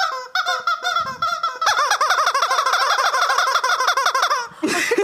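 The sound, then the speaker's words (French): A squeaky rubber chicken toy, used as a quiz buzzer, squawks loudly, starting with a few short honks, then a long, frantic run of rapid wheezing squeals before a final shrill squeak. “Je vous file c'est pas un coin-coin, c'est un poulet.”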